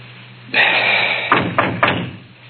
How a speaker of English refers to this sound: Okay, knock. Oh, I listened. Go on, knock.